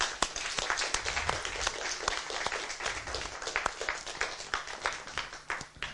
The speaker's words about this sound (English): Thank you. I think we can give you all a welcome applause.